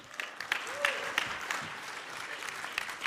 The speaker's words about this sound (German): Herzlich willkommen, ich darf dir Applaus geben.